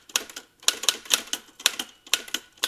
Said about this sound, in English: Isn't that cool? So I've got a musical typewriter here.